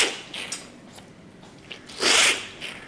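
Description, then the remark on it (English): A professional tea taster tastes manufactured tea in a tasting room, with a line of 75 cups of different teas and grades: a loud, airy slurp bursts out, hissy and sustained for a moment, after a few softer sipping and sucking sounds. No one speaks. “And that means high-volume slurping.”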